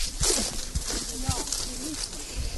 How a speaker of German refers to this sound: Wir gehen jetzt zum Feld, wo das Sehen stattfindet. Wir gehen gerade in so einer großen Gruppe über so Feldwege. Man hört es auch, die Blätter rascheln.